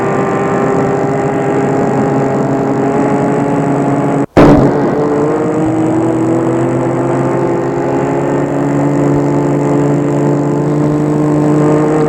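A car engine runs steadily, cuts out for an instant, then rumbles on as its pitch gradually rises, as the driver starts the car and pulls away, picking up speed.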